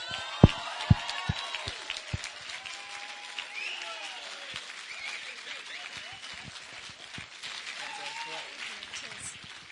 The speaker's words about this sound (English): if you can give her a huge round of applause,